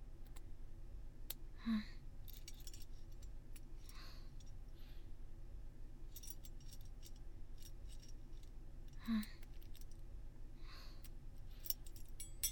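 A key works in a small lock, making a few faint, scattered metallic clicks and scrapes against a quiet, steady background hiss, with no one talking.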